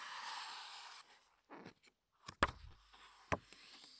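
Handling of a thick, sturdy hardcover book: a rustling of paper, then soft shuffles and two sharp, solid taps as the hard cover is handled, with no voices.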